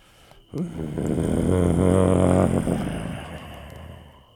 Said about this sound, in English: The creature did not seem comfortable with the summoning of God, and made another growl, louder, angrier, and more terrifying.